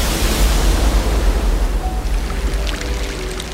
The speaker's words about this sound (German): Doch mit einem Mal kracht schäumende Wellengischt herein und wirbelt die Wasseroberfläche mit ungeheurer Energie durcheinander.